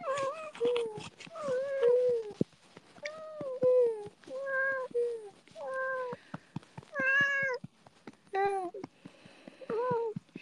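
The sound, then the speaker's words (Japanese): A cat meows repeatedly, a string of drawn-out, rising and falling cries with short pauses between them, mixed with soft human murmuring in the background. “猫様のお尻を叩く筋トレ。”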